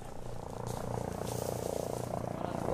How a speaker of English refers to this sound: The base is dusty and hot. Helicopters hover above us, and Marines in fatigues walk past metal Quonset huts.